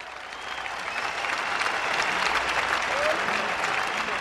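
A crowd applauds steadily, a dense wash of clapping that holds at an even, fairly loud level throughout with no pauses, and no one speaks over it.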